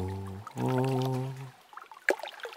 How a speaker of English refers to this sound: As Crow shook all her feathers, Little Bear crept to the shore of the lake. He knelt down and slipped his paw into the water.